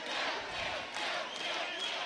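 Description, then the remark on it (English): A crowd cheers and shouts together in a dense, steady roar that holds at an even loudness for a couple of seconds, with no single voice standing out. “all right, let's hear a cheer.”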